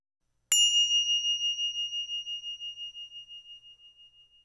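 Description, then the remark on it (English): A single mindfulness bell is struck once, ringing out with a clear, pure tone that slowly fades over several seconds with a gentle wavering shimmer, heard alone in silence. “Mindfulness bells.”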